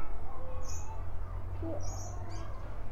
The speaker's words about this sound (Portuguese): A pergunta é: quantas vezes cada passarinho piou?